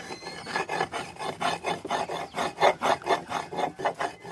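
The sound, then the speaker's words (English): Dry cacao nibs being ground back and forth into a paste as their oils and fats are released: a steady, rhythmic rasping scrape, roughly three strokes per second, repeating evenly throughout with no voices. “And very quickly, we see this amazing reaction, those powdery dry nibs, that smoky aroma being released, is being converted into a paste as the oils and fats are released, causing this mixture to be bound together.”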